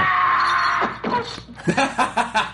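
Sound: man screaming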